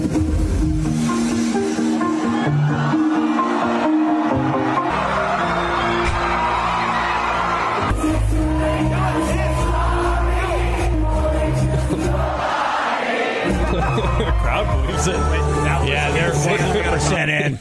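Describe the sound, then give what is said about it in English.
A large crowd cheers and whoops loudly and continuously for a a pop star impersonator, believing they are seeing the star, with excited shouts and screams rising and falling over a dense, roaring wall of voices. “The crowd's bought in. They think they're seeing ….”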